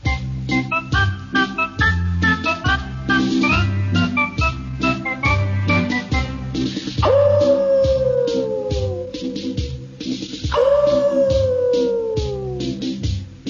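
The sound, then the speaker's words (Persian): Two long, drawn-out wolf howls, each sliding downward in pitch, rise clearly over a bouncy, rhythmic musical backing that plays throughout. “گرگ سیاهی در نیمه های شب رفت آهسته به سوی گوسفندان.”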